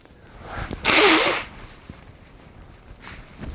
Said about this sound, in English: I'm going to sneeze again.